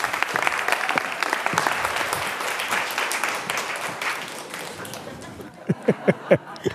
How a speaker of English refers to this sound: I'll present them in more detail in a minute, but I will just call them on stage now, and I ask you to give them a round of applause.